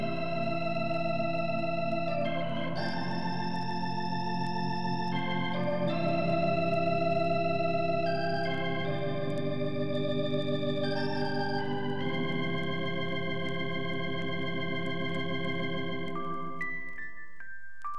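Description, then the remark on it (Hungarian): Sustained electric organ chords shift every couple of seconds, swirled by a fast rotating Leslie speaker that gives a quick, shimmering warble. Steady and fairly loud, no voices, fading at the end. “Gyors Leslievel.”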